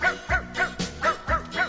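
Dogs bark out a bouncy tune: about six pitched barks in quick, even rhythm, loud, each bark at a different note so they form a melody. No one speaks.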